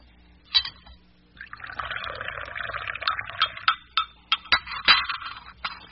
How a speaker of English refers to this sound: Nothing like a cup of hot tea on a cold day like this, I say. Here, I'll pour.